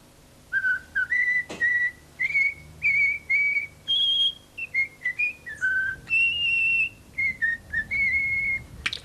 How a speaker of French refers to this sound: Ouais, c'était un étourneau qui chantait la Marseillaise.